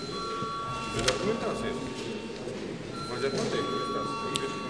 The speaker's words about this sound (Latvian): Deputāti prasa balsojumu, lūdzu zvanu.